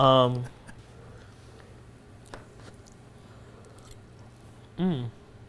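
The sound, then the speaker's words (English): Quiet, scattered crunches of someone chewing undercooked, crunchy pasta, a few sharp bites in a row, framed by short hummed or murmured vocal sounds at the start and end. “I also don't think the pasta is going to be cooked. I think it's going to be a little crunchy.”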